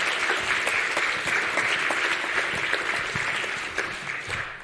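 Sustained audience applause welcoming a speaker onto the stage at a Congress, a dense steady wash of many hands clapping with scattered sharper individual claps, holding at an even loud level throughout with no voices over it.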